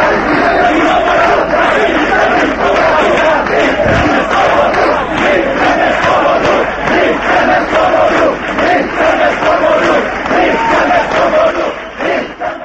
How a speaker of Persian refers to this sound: در 20 سالگرد ورود نیروهای اشغالگر بلوک شرق به چکسلواکی، آزادی خواهان بار دیگر فریاد اتحاد تا فروپاشی کمونیسم را سر دادند. آنها شعار می دادند که قدرت در وحدت و یکپارچگی است.